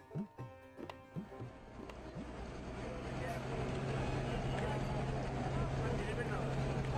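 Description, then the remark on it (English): Busy street traffic on the tight streets of Ponta Sahib, heard as a bus weaves among vans, cars and rickshaws: a few short blaring honks and passing vehicles at first, then a loud, steady engine rumble that builds and holds, with a constant low drone underneath. “Tight streets, blaring horns, vans, cars, rickshaws, then through the Gate of Peace.”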